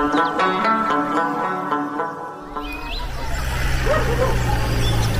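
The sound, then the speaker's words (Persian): A dog barks and yips in quick bursts with some whimpering, and the barking gives way to a noisier, rustling background in the second half. “من سگا سخت میترسم، این طرف بیا بده رئیس. نکو چی میکنی؟ تو مرا سرش میخورانی؟ باید از شرید سگ برای خلاص کنی.”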